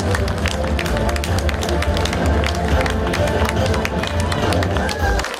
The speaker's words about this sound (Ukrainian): Ваші оплески!